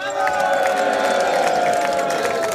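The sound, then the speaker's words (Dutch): A crowd at a kletsavond applauds the organisers and the jury, dense clapping filling the whole stretch at an even loudness, with a murmur of cheering voices blended underneath. “En ik zou eerst willen vragen een geweldig applaus voor en de organisatie en de jury.”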